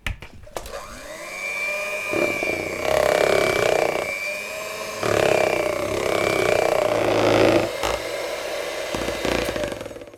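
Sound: electric kitchen mixer running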